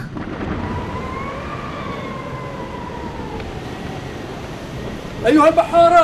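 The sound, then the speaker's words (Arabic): Deep, continuous storm rumble rolls like thunder over a roaring sea in a strong storm where no one can control the ship, with a thin howling whistle drifting above it; near the end, sailors' loud voices shout over the din. “إن العاصفة قوية يا سيدي، ولا يمكن لأحد السيطرة على السفينة.”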